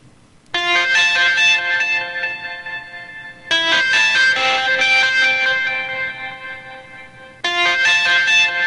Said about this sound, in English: So it's actually got, if you think about it, it's got the structure of a traditional ringtone, just a landline ringtone, but it's sort of a more musical and elaborated version of that.